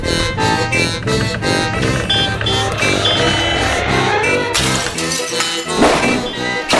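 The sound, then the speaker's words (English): Loud, blaring reed-horn tones from reeds made of old transmission parts, set in short exponential horns attached to a running vehicle's exhaust pipe, pulsing in rough bursts over a rumbling motor, with a sudden harsh clattering crash near the end as the rear shocks go through the back window. “By setting them into short exponential horns and attaching them to any exhaust pipe of a running vehicle, you get this.”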